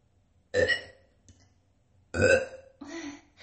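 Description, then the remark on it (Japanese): Loud burps in an echoing bathroom: two long, croaky belches with a ringing reverberant tail, then a shorter third burp right after. No talking. “ちょっと一回ゲップやってみます。”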